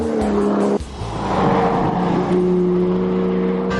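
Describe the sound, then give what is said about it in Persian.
A 2013 Porsche 911 Carrera 4 engine revs loudly, its steady growl dipping briefly before climbing back into a sustained high-pitched roar, with no talking. “ولی اکنون جواب ما به این سوال پورش سری 911 و بدون تردید پورش 911 کاررا C4 سال 2013 است.”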